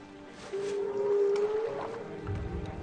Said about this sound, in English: a Native Alaskan fisherman is talking to an 11-year-old boy and telling him to put his ear up to the ice and listen to these whales. Kneel down right there. What? Kneel down right there. Come on. Okay. Put your ear around the ice. Come on, listen.